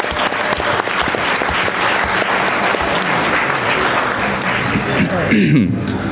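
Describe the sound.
A dense, sustained round of applause for Active Blind and the scholarship winners, many hands clapping in a loud, crackling wash that stays steady for several seconds, with a few voices cheering briefly near the end.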